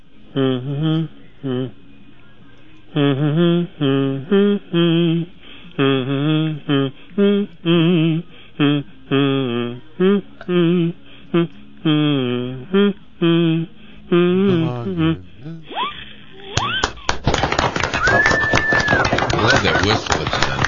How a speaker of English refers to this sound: Does that have a particular name, the whistle on the kazoo? Does it have a name? Just whistle? Yeah. Just whistle.